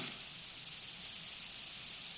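A steady, faint wet hiss of cars driving through water outside on a rain-soaked road, continuous, with no distinct pass-bys and no voices.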